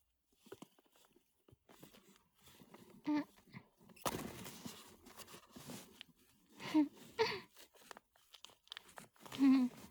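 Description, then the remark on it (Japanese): Crackling rips and crinkles of the plastic film on a pink vibrator's packaging being torn open with the mouth instead of scissors, coming in uneven bursts with short pauses, sharpest in a sudden loud tear midway and a few strong pulls near the end. “普通はなんかハサミ使って開けるんですけど、そういうのが面倒なので、こう見えて面倒くさがりです。なので口でもう開けちゃいます。”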